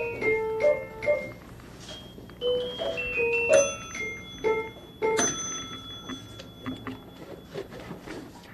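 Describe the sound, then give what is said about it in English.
A small bell is rung repeatedly at a museum to summon someone for help, with bright, ringing strikes at a few different pitches spaced irregularly over several seconds. It sounds clear, with no talking. “And if you just go and kind of go like that with the bell, then you can get her, and she might be able to help you.”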